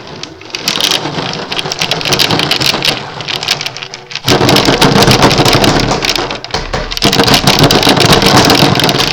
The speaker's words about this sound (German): Leider gab es ein Gewitter.